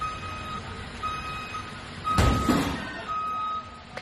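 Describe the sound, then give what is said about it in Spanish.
A tourist bus's reversing alarm beeps in slow, repeated tones in Chueca, Madrid, broken midway by a loud, sudden crash as the bus strikes metal street furniture, with the beeping continuing afterward over low engine rumble. “Es el pitido que emite el autobús al hacer la maniobra de marcha atrás y el golpe final cuando choca contra el mobiliario.”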